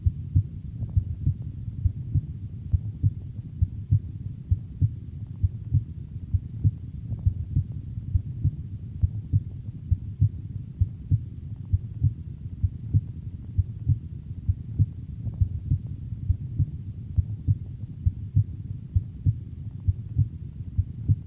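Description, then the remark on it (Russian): Heart sounds heard through a stethoscope at the aortic auscultation point, in the second intercostal space to the right of the sternum: a steady, regular lub-dub beat, low and muffled, the second sound louder than the first, repeating throughout over a faint constant hum, with no voices. “Во второй точке аускультации, во втором межреберье справа от грудины, наоборот, второй тон оказывается громче первого.”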